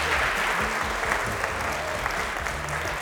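A crowd applauds steadily for about three seconds at a CS50 class in New Haven, a dense, even wash of many hands clapping at a constant moderate loudness, with faint murmuring voices underneath.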